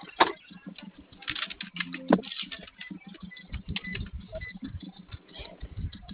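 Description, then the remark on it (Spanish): Someone enters the code 1414 on a keypad, a quick irregular run of small sharp clicks with a couple of brief brighter taps along the way. Nobody speaks. “Ingresa 1414 o 1414 gato, por favor.”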